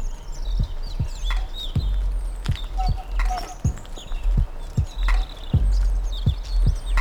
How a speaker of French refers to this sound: Et les oiseaux éblouissent vos oreilles.